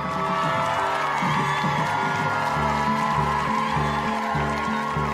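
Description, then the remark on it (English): A crowd of high school upperclassmen at Oak Park and River Forest High School cheers and shouts continuously to greet arriving first-year students as school starts, a dense, lively roar of voices with whoops rising over the top, steady throughout. “In this scene, first-year students are greeted as school starts by cheering upperclassmen.”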